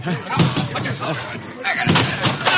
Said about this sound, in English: Who is it? Break in the door!